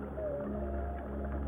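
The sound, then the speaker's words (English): An adult male humpback whale sings a long, wavering moan that drifts slightly downward, carried over a deep underwater rumble. The tone is steady and fairly quiet, with no voices present. “This is the song of a humpback whale.”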